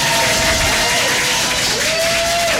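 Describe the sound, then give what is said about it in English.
A crowd bursts into steady, loud applause with dense clapping and scattered cheers and whoops, sustained throughout without a break. “That calls for a round of applause.”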